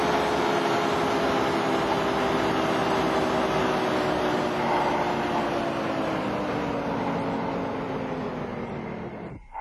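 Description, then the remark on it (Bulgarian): The engines of an old 1950s-model submarine drone steadily, churning the water in a deep rumble with a humming tone that slowly shifts in pitch, loud throughout before cutting off at the end. “Се здраво за скалата, че вълнението от двигателите може да ни отнесе.”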